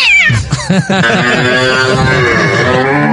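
A cat meows loudly, starting with a few short choppy cries that stretch into one long, wavering yowl lasting about three seconds, with no talking.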